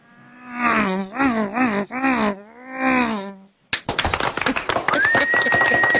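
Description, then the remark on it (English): A man's voice imitates a NASCAR race car engine, revving with rising and falling buzzy sweeps for a few seconds, then stops and gives way to clapping and noisy crowd reaction. “That could be a little bit of a cross between a NASCAR and bad gas.”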